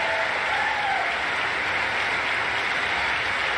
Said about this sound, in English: I know the night is late, but when we come back, our very first bill will repeal the funding for 87,000 VIOs. And there's Marjorie Taylor Greene clapping.